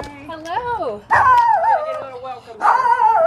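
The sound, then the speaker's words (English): A dog barks and yips excitedly at a door, greeting a visitor, letting out three loud, drawn-out bursts with wavering, whiny pitch and short pauses between them. “Molly Cassidy and her dog Oni greeted me at the door.”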